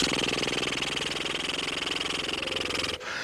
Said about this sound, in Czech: A jdeme na prdění. Takže rozvibrujte rty. Kdyby vám to nešlo, tak si promasírujte líce a trochu si je zvedněte. Ulehčete si tu váhu a potom jde vibrace lépe.